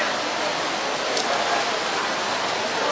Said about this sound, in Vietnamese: Phải mưa, phải ướt. Rồi, chúng ta tạ ơn Chúa. Hồng ơn Chúa như mưa, như mưa. Không có gì phải lo lắng nha. Giờ ngồi sát vào khỏi mưa.